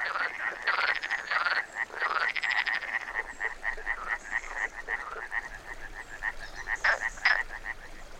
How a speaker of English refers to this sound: First of all, three amphibians that are very common in these forests show up, such as the common frog, the European tree frog, and the Iberian painted frog. All three have twilight habits and have just come out of hiding to feed on small insects.